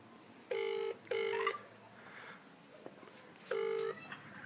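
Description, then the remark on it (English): A telephone ringing tone on the line as a call is placed to a company: three steady, buzzy tone bursts, each under half a second, with the first two close together and a longer pause before the third. Faint background noise fills the gaps. “But let's phone them up and see what they say.”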